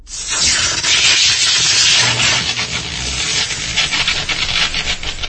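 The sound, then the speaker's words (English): A loud, steady electrical sizzle with dense crackling sparks as static arcs of electricity jump from a door mechanism cratered by a slug, running continuously from start to finish, harsh, with no voices. “The door mechanism is cratered from one of Jazz's slugs, and the static arcs of electricity jump from it as it sizzles.”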